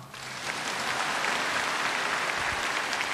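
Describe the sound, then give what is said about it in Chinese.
Steady applause from an audience at a talk in Singapore, a dense wash of many hands clapping that swells in the first half second and then holds loud and even with no voices. “好了，鼓掌。”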